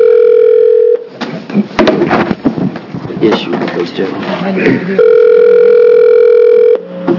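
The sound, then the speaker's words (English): A steady telephone dial tone hums loudly as a call is placed to bring a panelist in by phone, breaks off for a few seconds of people talking and background shuffling, then returns just as strong before cutting out. “So this is a panel that, you go ahead and get them on the phone.”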